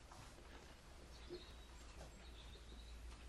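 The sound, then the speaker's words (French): Faint birdsong: a few thin, high chirps and whistles drift in and out over a steady low background hum. No one speaks. “Vous entendez les oiseaux?”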